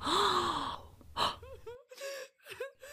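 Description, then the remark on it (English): Several sharp, breathy gasps from a small group of people in awe as Jesus heals the sick, one after another, some rising into soft voiced exclamations of wonder. Fairly loud, with no speech. “Some covered their mouth as they gasped in awe.”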